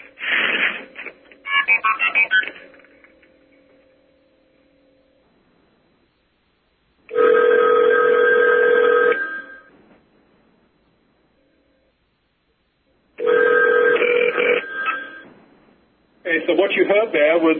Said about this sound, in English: The MF being sent from the 5 crossbar to the 3 crossbar, and then shortly after that, you heard the phone ringing. That's the phone on our 3 crossbar that we made the call to, and hopefully that came through okay.